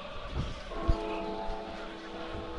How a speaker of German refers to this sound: aber es tut sich noch immer nichts und es gongt weiter